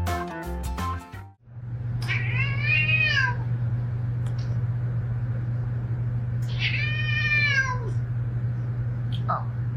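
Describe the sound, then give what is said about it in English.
A cat meows twice, two drawn-out, wavering cries a few seconds apart, fairly loud over a steady low hum in the background. “Only when the tables turn does the cat truly understand the value of privacy, huh?”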